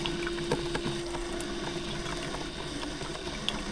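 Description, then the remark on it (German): A pump drawing in liquid: a steady, dense rushing whir over a constant low hum, broken by a few faint clicks, with no voices. “Ansaugen, dann angesaugt.”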